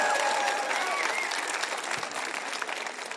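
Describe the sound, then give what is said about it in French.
Sustained applause from one side of the crowd for the other side: a dense crackle of many hands clapping steadily at a fairly loud level, with faint whistles or cheers rising briefly at the start. “J'aimerais que ce côté-là applaudisse ce côté-là qui a été vraiment formidable.”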